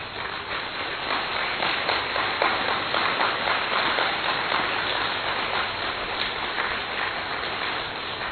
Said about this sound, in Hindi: तो दीदी जी के सम्मान में थोड़ा खड़े रह के सब तालियां बजाओ जरा।